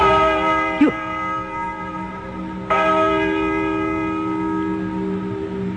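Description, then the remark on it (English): A large church bell tolls the hour, two strokes (counted as six and seven) about two seconds apart, each ringing out with rich, lingering overtones that hang in the air between strikes. No one speaks. “Listen to that bell. Six. Seven.”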